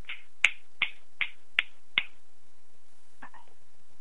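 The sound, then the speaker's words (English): Five crisp finger snaps land in a steady rhythm, sharp and bright, followed by a softer click or two after a short pause; no one speaks. “Gave you your snaps.”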